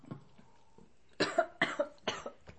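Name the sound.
coughing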